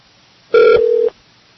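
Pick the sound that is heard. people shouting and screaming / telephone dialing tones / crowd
telephone dialing tones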